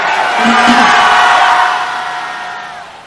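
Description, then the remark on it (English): An audience shouts hallelujah together at a preacher's call, a loud blended roar of many voices that swells in the first second, holds, then gradually fades away over about three seconds. “If you receive that, let me hear you shout hallelujah.”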